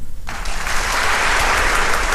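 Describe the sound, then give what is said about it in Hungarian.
An audience breaks into applause after a poem is read, following a brief quiet moment, a dense, steady clatter of many hands clapping that stays loud throughout. “Úri közönség, tapsol!”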